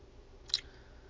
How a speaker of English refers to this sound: Take a little sip of tea.